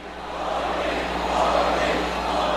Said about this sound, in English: In the house of the New York Knicks, the leader of India took the stage at Madison Square Garden over the weekend to the sound of a cheering, sold-out crowd.